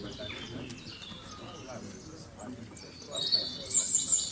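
birds chirping

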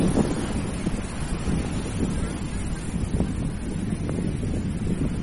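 ocean waves and wind

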